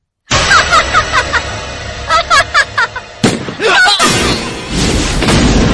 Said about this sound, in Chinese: 天哪，子弹穿过了魏乔的额头，他死了